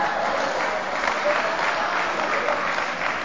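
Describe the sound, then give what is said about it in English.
An audience that includes women applauds steadily, dense overlapping claps filling the whole stretch at an even, fairly loud level with no voices standing out. “All you folks looked around, you seen these women clapping and all happy and shit.”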